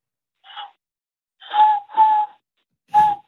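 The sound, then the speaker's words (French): A voice imitates an owl with four breathy, tonal hoots: a short soft one, then two longer ones close together, a pause, and a final hoot, all at a similar mid pitch. “Le hibou, tout le monde sait le faire, le hibou.”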